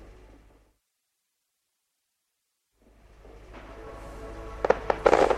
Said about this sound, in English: Okay, so the fireworks are going, and I'm just going to take the first shot and see what happens with the exposure. That's kind of nice. They're a bit too far across.